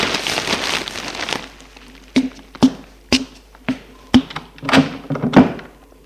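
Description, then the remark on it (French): A bedroom door is opened slightly and then closed again: a brief rush of noise, then a series of sharp wooden thunks and clicks at irregular intervals, moderately loud, with no voices. “Il se lève pour entrebâiller la porte de la chambre.”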